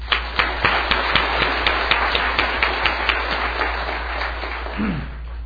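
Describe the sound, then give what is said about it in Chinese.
A church audience claps for about five seconds to welcome visiting friends and fellowship co-workers. The hand claps are sharp and fairly distinct in a quick, uneven rhythm that gradually thins out toward the end. No one speaks. “我们一起鼓掌。”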